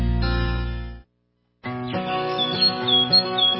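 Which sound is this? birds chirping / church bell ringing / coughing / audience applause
birds chirping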